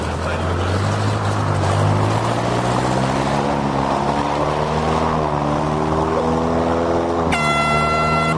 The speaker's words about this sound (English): And they're across the start line. Rapid Response's 5.5-litre engine blasts her upriver. Everybody in the valley knows it's started.